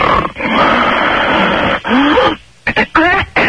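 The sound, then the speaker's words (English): A person imitates snoring, somewhere between a regular in-bed snore and breathing with a cold: a long, harsh, rattling breath that ends in a throaty rise, then a brief silence and a few short, choked snorts. “It was in between your regular in-bed keep me awake all night snore and...”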